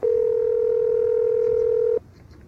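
A telephone line tone from an outgoing call placed at 8 o'clock sounds as one steady, mid-pitched hum held for about two seconds, then cuts off abruptly, leaving only faint background noise.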